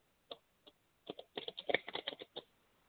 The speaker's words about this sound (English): One second while I shuffle. These cards are really hard to shuffle. They're brand new.